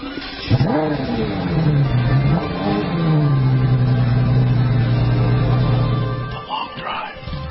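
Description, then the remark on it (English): The powerful engine of a new Mercedes-Benz E63 AMG luxury car revs up sharply, then settles into a loud, steady drone that holds for several seconds before cutting off near the end. “Mercedes' brand new E63 AMG is a velvet hammer, a luxury car with the heart of a sports car.”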